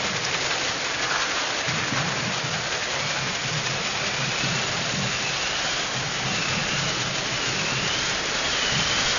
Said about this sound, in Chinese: 咱们先来通过现场的一段音效，我们先来感受一下。很明显，这是雷声，有风声。雨声来了，